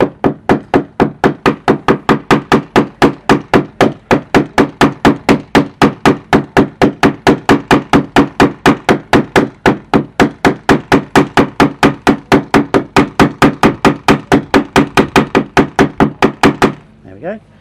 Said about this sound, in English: And then we take the peening end of the hammer and we hammer this down in a slightly circular motion to peen it in place.